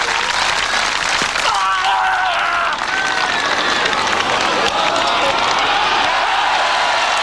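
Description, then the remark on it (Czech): A large stadium crowd applauds loudly and steadily, a dense wash of clapping with rising cheers and whistles mixed in, sustained throughout without a break, for Jan Železný's javelin throw of 98.48 metres, a world record, on 25 May 1996. “Podle aplausu ale dobře věděl, že tenhle hod bude hodně daleko.”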